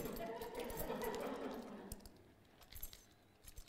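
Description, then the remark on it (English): Keys on a key ring jangle and clink in irregular bursts as someone searches through them for a particular key, a busy rattle at first that thins into scattered metallic taps, with a faint murmur of voice underneath early on. “Probably the most important key on my key ring is... Where's it gone?”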